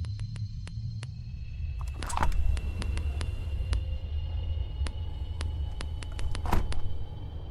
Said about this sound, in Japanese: あ、もう次の駅着いちゃった。